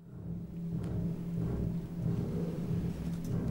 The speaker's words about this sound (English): The aria starts with this sort of very low bass chord, almost like thunder going off, repeated, sort of very low, and the double basses in the piano.